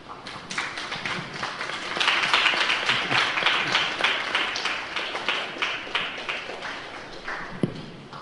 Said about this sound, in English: Clapping's become a new thing in Mayapur. I'll clap for you.